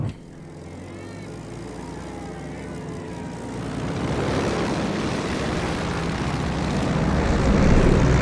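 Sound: airplane engine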